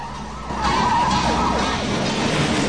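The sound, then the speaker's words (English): Wailing police sirens from backup patrol cars sweeping into action in a town rise and fall over a steady low traffic rumble, fairly loud and continuous, with no talking. “In a town, backup patrol cars are sweeping into action.”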